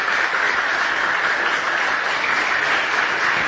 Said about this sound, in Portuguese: uma salva de palmas para todos os técnicos e todas as pessoas que fazem esse trabalho voluntário no município de João Neiva.